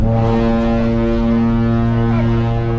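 The horn of the navy training ship Zheng He blows in one long, loud, steady blast as the warship slowly departs the pier, its deep harmonic tone sustained without a break, heard alone with no voices.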